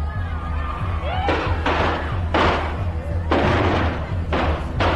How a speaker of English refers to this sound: What sounded like shots turned out to be Chinese firecrackers.